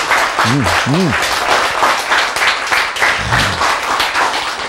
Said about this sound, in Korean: 박수!